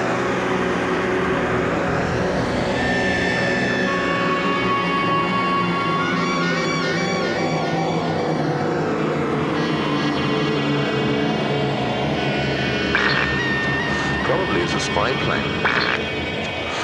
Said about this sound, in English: Plane.